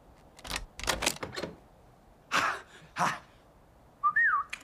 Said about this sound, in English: What's this thing you do, the whistle with the clicking sound? What do you mean? That's my trademark.